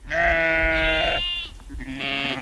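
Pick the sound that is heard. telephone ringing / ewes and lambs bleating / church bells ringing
ewes and lambs bleating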